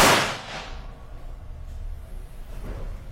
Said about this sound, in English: what if someone walks right in front of a person as they're firing a gun with a blank?